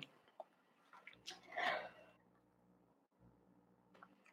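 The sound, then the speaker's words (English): A person chokes and coughs on their own saliva while on camera, with a sharp, harsh burst around the middle followed by wet swallowing and throat noises, fairly quiet, with no speech. “Oh gosh, I'm like choking on camera. Yeah, I'm good. I'm like swallowing my own spit or something.”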